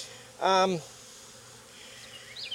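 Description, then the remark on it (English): Honeybees buzzing around as a beekeeper shakes bees into a bucket and lets the foragers fly away, with one flying by in a loud, brief droning hum before fading into quiet outdoor background, plus a faint high chirp near the end. “I did the whole shake and the bucket thing and let the foragers fly away.”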